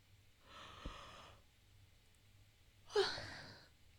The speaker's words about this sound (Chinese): 你打哈欠才像狮子呢，我嘴哪有张那么大？